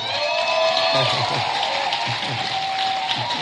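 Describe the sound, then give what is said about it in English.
An audience claps steadily for a few seconds, a dense, loud patter of many hands, with crowd voices and a few cheers mixed into the applause. “So clap if you want to express yourself.”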